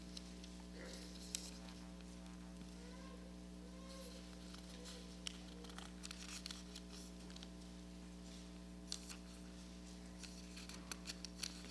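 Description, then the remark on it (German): Bible pages being leafed through to 2 Peter chapter 3, verse 14, with a series of soft, crinkly rustles and flicks spread over several seconds, fairly faint, over a steady low electrical hum with no talking. “Und das blättert sich nicht.”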